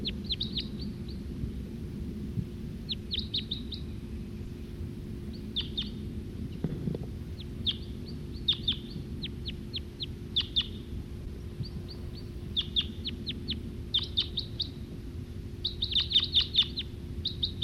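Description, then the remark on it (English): A male bird sings in song flight, a run of short, high chirping notes in quick clusters and scattered bursts, over a steady low rumble, with no voices. “That male who was singing, he's perched back up there in that tree.”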